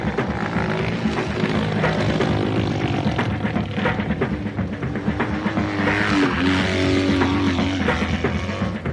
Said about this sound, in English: Motorcycle has two wheels and handlebars to steer it. It's fun to drive, and when you drive, everyone can hear it.